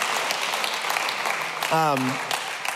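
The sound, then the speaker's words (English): An audience at a LifePoint church service claps steadily throughout to celebrate a sound team member's newborn son. The clapping is a dense crackling wash of many hands, with a brief voiced cheer rising out of it partway through. “And so you can say, I saw someone clapping, right?”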